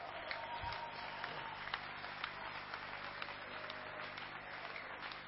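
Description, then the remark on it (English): A church audience claps hands for Jesus in a steady, dense wash of applause that stays even and fairly loud throughout, with scattered sharper claps standing out and no voices heard. “Won't you clap your hands for Jesus?”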